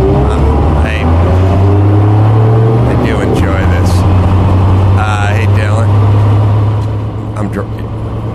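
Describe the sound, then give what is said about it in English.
A Porsche race car engine drones loudly and steadily on a racetrack, its low, even roar holding throughout while a man talks over it. “This I'm driving a Porsche in the footage you're showing.”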